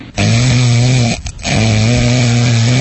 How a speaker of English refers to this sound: Like a snoring, yeah.